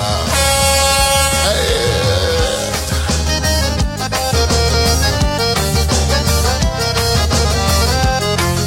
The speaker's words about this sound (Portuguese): Alô, você caminhoneiro, alô, carreteiro, buzina, se você tá aqui na sintonia da Vale. Mete o dedão na buzina.